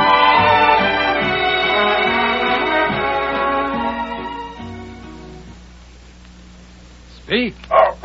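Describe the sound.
Several seconds of voices fade out, then a dog gives two short, sharp barks on command, one right after the other, at the very end, in a radio advertisement for Gaines Dog Meal.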